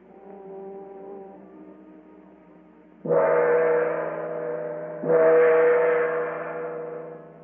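A huge gong outside a door that appears to be made of solid gold is struck twice by an officer with his sword. Each loud metallic hit blooms into a deep, shimmering ring that slowly fades, following a lingering hum from an earlier strike. No one speaks.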